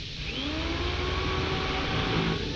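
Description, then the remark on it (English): A power drill, used on a door that will not budge, runs continuously for a couple of seconds, its motor whine rising slightly in pitch with layered tonal overtones above a steady, fairly loud grinding rumble. No one speaks. “Give me the drill.”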